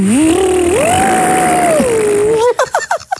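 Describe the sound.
A person vocally imitates a car speeding up as part of a sound-guessing game: a loud, continuous buzzing hum that climbs in pitch, holds high, then dips and breaks into a few choppy sputters at the end.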